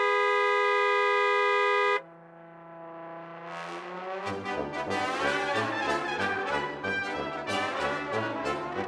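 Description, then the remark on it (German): A car horn honks once as a friendly hello, a loud, steady two-second blast, then cuts off as an upbeat music jingle fades in and plays on. “Das ist also eine freundliche Begrüßung in der Hubsprache”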